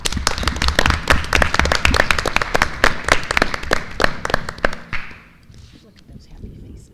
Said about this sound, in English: Before we do that, I would like to recognize Troop 123. Please stand up. I'd like to give them a round of applause for coming to our meeting. Thank you.